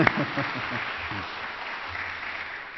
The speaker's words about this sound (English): We can clap for him.